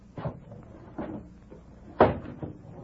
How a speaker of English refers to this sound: Shut the window.